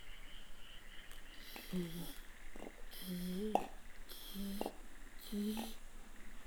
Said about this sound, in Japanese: だんだん確実にこちらへ近づいてくる足音。